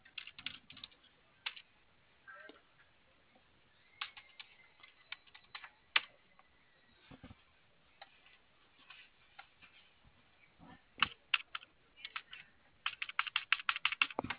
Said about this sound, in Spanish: Va, a si ver, trabaja bien el teclado, ya si cuando conectas y desconectas suena el titic. Ajá. Y sí, sí trabaja.